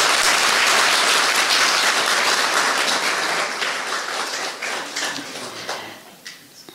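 A crowd gathered at a yoga retreat bursts into loud, dense applause for themselves, many hands clapping at once in a steady roar that gradually thins out, leaving a few scattered claps as it fades toward the end.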